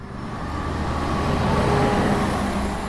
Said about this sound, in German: Lydia Jacobi nimmt sie jetzt mit zur Berliner Friedrichstraße. S-Bahn, U-Bahn, Straßenbahn, Autoverkehr und wenig Platz.